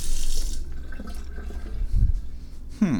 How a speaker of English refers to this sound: Now I have to wash my hands again.